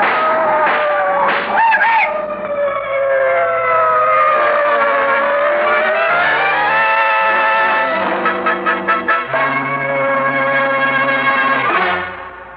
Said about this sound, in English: Cribbit, those cars! What the... They're coming this way! Jump quick, they'll hit you!